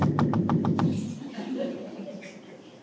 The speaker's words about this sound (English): There's one kind of knock that's more like... It's about three. Three is the count. Right? That's one kind of knock. Then there's...